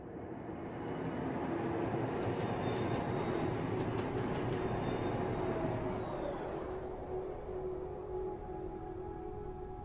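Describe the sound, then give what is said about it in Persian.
A train rumbles past on the rails with a steady, loud roar and rhythmic clatter, a faint metallic squeal rising midway before the noise eases slightly toward the end. No one speaks. “باید سوار اون قطار میشدم.”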